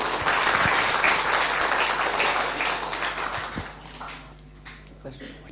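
An audience applauds steadily for several seconds for a slam poetry performer, a dense wash of many hands clapping that thins and fades toward the end.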